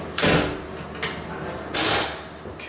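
A small fuse cabinet door in a basement rattles and clunks three times, with two longer scraping jolts and a brief knock between them, fairly loud, as someone tugs at it and it will not open.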